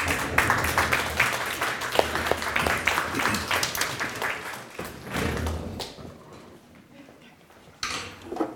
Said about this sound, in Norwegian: Gi dem en applaus.